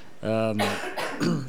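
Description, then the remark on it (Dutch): A short voiced grunt followed by three harsh, breathy coughs in quick succession, fairly loud, with no talking around them. “Loop bij Noord te hoesten, ja.”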